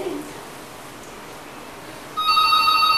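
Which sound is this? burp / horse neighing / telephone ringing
telephone ringing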